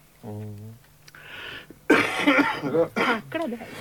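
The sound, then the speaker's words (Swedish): A short voiced throat sound, then a breathy, noisy cough, followed right away by a person talking. “Först ska jag hosta så kan jag säga … där.”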